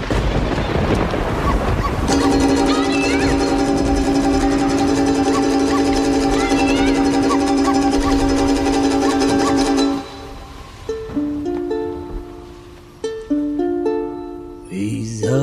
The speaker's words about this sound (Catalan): Podem dir que el …, el primer és el tro. No? El primer és un tro, i després el so de la pluja.